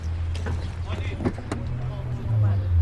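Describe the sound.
A man tries to open a car hood, which is full of clothes and junk: a few sharp metallic clicks and clunks over the steady low hum of an idling engine, with faint muffled voices.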